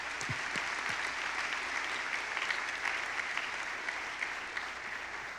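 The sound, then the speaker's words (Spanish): Sustained applause for the Lord from a church audience, a dense, steady wash of many hands clapping at an even loudness for several seconds, with a few sharper individual claps standing out. “Un aplauso al Señor.”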